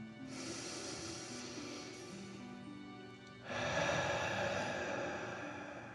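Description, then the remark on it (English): A slow, deep 'dragon breath': a long airy inhale through the nose for about three seconds, then a louder, fuller exhale rushing out of the mouth. No talking. “As you continue to relax in the cozy warm sand, let's take three more deep dragon breaths. Deep breath in and out.”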